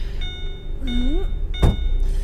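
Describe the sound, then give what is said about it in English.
A truck door slams shut once with a heavy thud, over a steady low rumble and a faint high whine. The door is being shut again after a blanket got stuck in it. “The blanket probably got stuck in the door. Damn thing never shuts right.”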